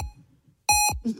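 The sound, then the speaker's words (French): Three short electronic beeps in quick succession, the first faint and the last two loud and piercing, with no voices. “Quand il bip 3 fois comme ça, c'est qu'il est motivé.”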